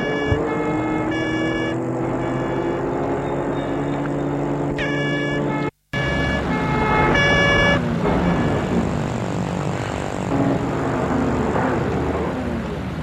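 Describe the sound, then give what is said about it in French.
Busy night-time city traffic in Paris hums steadily, with car engines, passing vehicles and occasional horn toots layered over a dense, continuous background; a brief dropout breaks the sound midway before the street noise resumes. “Paris la nuit.”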